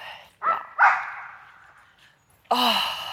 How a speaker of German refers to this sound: Ein normales Hundegebell. Wir laufen hier übrigens am Hundepark entlang.